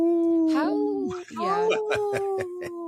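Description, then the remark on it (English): A person imitates a wolf howl to say "no" in wolf, with sustained, wavering voiced tones that rise and fall, broken by short breathy yips, loud for about three seconds. “So I speak wolf. When I say no, I go,”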